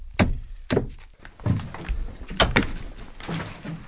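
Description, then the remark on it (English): A heavy door of the seed repository inside a mountain on Svalbard, Norway, opens and shuts with several loud, resonant thuds and clanks, followed by faint shuffling and echoing movement. “It was distinctly colder in this bit as we come through the door.”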